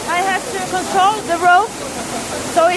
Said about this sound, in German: Tosendes Wasser füllt in Sekunden das Schleusenbecken. Am Schiffsrumpf knirscht es laut, fast bedrohlich. In der längsten Schleuse des Götakanals kommt an Bord des Passagierschiffs Willem Tamm leichte Hektik auf.